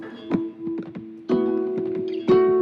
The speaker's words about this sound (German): Auch dieses Klopfen, was du hörst, hat er aufgenommen. Er hat einfach mit seinen Fingern auf den Laptop-Deckel geklopft